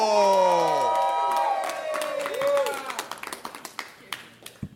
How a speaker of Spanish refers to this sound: Fuerte aplauso